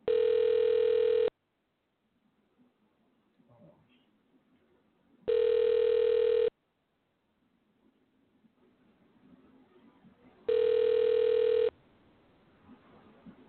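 An outgoing call's ringback tone: three loud, steady electronic tones about a second long, repeating roughly every five seconds, with faint background noise in the quiet gaps between them.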